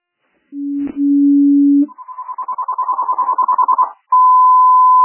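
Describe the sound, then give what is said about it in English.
Crystal Lake Fire Department dispatch alert tones for a general alarm for station coverage at station 1, with no voices: a steady low tone, then a higher tone pulsing faster and faster, then a long steady high tone. “Okay, the general alarm for station coverage, station 1.”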